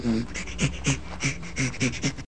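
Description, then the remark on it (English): A rapid series of breathy, rhythmic pants, about eight short huffs in a steady back-and-forth pattern, fairly loud, a chimpanzee's panting laughter with no voiced calls. “This particular recording has a panting chimpanzee laughter.”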